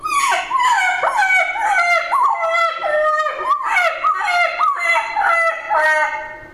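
turkey gobbling

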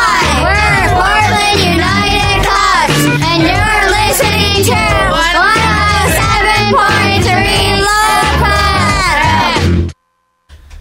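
children screaming

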